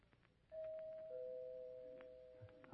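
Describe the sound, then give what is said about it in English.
A doorbell, rung by a visiting young woman, chimes two notes, a higher tone followed by a lower one, each ringing on and slowly fading. No one speaks, and only faint background hiss surrounds it. “I know who it is because she rings the doorbell instead of knocking.”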